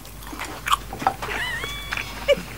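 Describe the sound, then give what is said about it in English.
A person chewing and biting into crispy fried chicken, secretly recorded into a studio microphone, with a few sharp, crackly crunches scattered among wet, smacking mastication and a brief tonal squeak midway, no talking. “Just listen to it. Listen to it. Listen. Fried chicken.”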